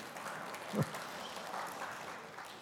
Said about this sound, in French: Vous devriez peut-être attendre avant d'applaudir.